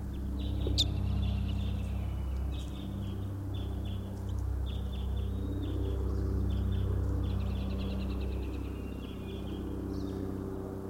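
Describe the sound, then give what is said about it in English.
A faint Type 5 bird calls again and again from way across a clearing, thin high phrases repeating over a steady low engine-like rumble that fills the whole recording. “This is a Type 5 bird way across the clearing.”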